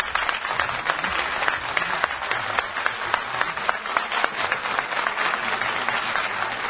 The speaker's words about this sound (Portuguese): E agora eu quero um aplauso de pé para vocês que estão aqui hoje ajudando todo mundo. Todos de pé. Aplauso é para vocês aí que estão ajudando.